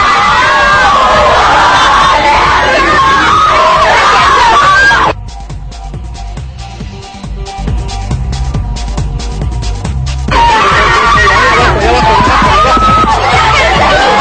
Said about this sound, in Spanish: Los boletos se han terminado, hay alegría, emoción, gritos. Aquí seguimos en la Arena Monterrey.